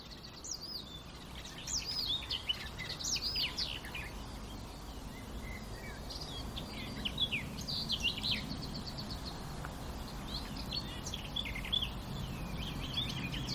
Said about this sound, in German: das war doch mal eindeutig ein Rot-Milan.